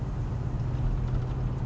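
A steady, low engine drone from a truck being driven at night, a constant rumble with a faint hum riding on top and no voices.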